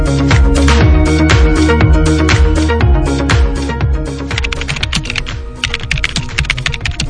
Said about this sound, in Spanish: Muy gracioso, Jesús, con esto del teclado.